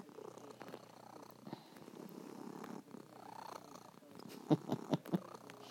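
A cat named Pink purrs steadily, a low continuous rumble, with a few brief, louder scratchy snags near the end as its claws catch in bed covers.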